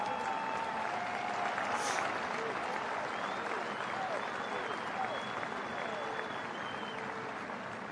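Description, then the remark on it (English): An audience claps steadily for several seconds, a dense, even patter of many hands that stays loud throughout, with faint voices mixed into the applause. “I know y'all clapping because the Raiders coach left.”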